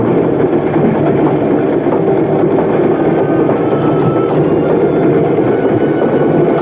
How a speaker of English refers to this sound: Then we reached Soda Springs and the train slowed down.